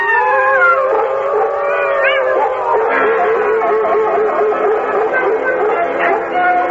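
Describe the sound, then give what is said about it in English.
A chorus of wolves howls together, several long wavering voices overlapping and sliding up and down in pitch, loud and sustained for the whole stretch with no talking. “Look well, O wolves. Is that your wish?”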